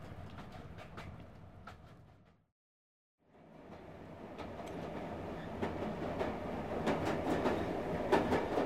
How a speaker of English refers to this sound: Three days on a train is uncivilized. It's cramped and dingy and slow.